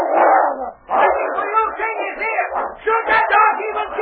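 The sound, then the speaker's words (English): A dog and a wolf dog fighting, a continuous tangle of loud snarls, growls and sharp barks that surge and overlap for several seconds without a pause. “King, bigger and stronger than the wolf dog, could easily have killed him”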